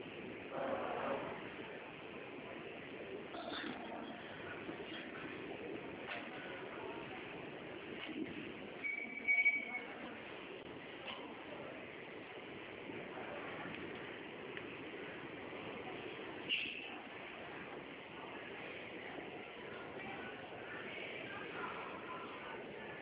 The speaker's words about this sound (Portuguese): Ai, peraí. É que eu tô no ônibus, é complicado.